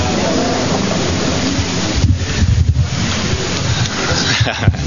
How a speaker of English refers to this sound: If you listen very carefully, you can hear some wind and some birds, but not a lot of car.